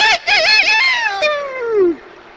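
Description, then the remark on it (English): A voice imitates a rooster crowing: a loud, high, wavering call in a few quick bursts that stretches into one long note sliding downward before it cuts off. “And we got no more out of it than we got out of a rooster crowing across the yard.”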